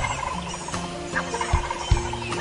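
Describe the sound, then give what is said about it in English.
A wild turkey gobbler answers a hoot owl's call with a rattling, throaty gobble that rolls on for a couple of seconds in open woods, with a couple of dull low thumps near the end. “Old Tom answering a hoot owl's call.”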